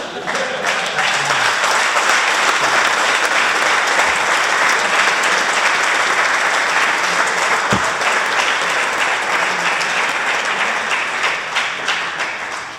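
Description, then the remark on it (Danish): Sustained applause from an audience, a dense, steady wash of many hands clapping at an even loudness for about thirteen seconds, with no voices standing out. “Det her klappen, det siger mere om jer, der gør mig.”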